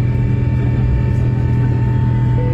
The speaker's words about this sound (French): Nous avons décollé à 21h30 et le vol a duré 11h.